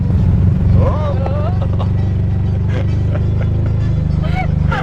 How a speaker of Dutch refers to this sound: Oh. Ik ging een beetje. We slippen de bandjes door de bocht. Ja. Nou, je bent niet bang hoor, terwijl het een 3-wieler is. Nee hoor. Met 2-wielen door de bocht.